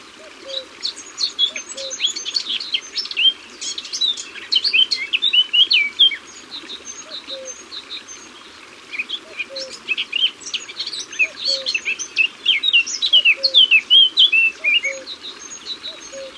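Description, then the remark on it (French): A Eurasian blackcap sings busy, chattering phrases of quick warbled notes in two long bursts, clear, with soft lower calls repeating faintly in the background and no talking. “La Fauvette à tête noire est aussi un très bon petit chanteur, très bavard, une pipelette, quoi.”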